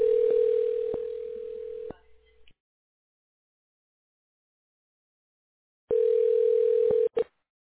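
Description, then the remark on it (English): A phone line rings out on an outgoing call from the firm Local Splash to a business about its online listing: two steady, low-pitched buzzing rings about two seconds long, separated by several seconds of silence, with no voices. “Well, I'm calling to speak with the person who handles the online listing for the business.”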